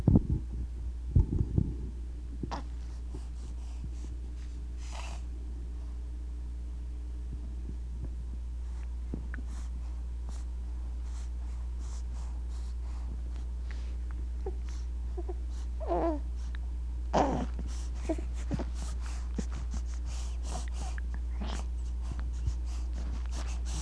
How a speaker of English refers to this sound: Breathing and sounds from the back of his throat. Guttural sounds. I think that had the tongue involved.